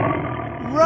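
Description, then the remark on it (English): A loud tiger roar, one sustained growling bellow lasting about a second and swelling slightly toward the end. “It's a tiger!”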